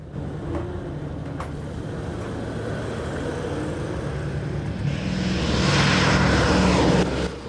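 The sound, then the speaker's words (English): Propeller engines of two B-17 bombers drone steadily, swelling louder over several seconds as the planes come in low to land, a broad rumbling roar with no voices. “They look up to see two of the B-17s coming into land.”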